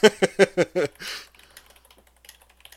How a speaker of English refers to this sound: Now I am typing.